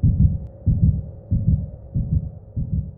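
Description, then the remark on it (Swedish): A rapid heartbeat: five heavy, low double thumps in a steady rhythm, each beat a muffled lub-dub over a faint continuous hum, with no voices. “Mitt hjärta slog så snabbt att jag trodde att jag skulle få hjärtinfarkt.”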